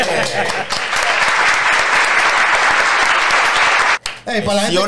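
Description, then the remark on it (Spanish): Loud, dense applause from an audience, a steady wash of many hands clapping for about four seconds, then it cuts off briefly and a man starts speaking. “¡Hey, aplauso, hombre!”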